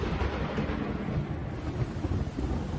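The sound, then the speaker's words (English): Thunder rumbles low and steady through a storm, a continuous heavy roll with a hiss of rain or wind layered over it, fairly loud and with no voices. “Severe weather season is upon us. Let Farha Roofing be your advocate to help you weather the storms.”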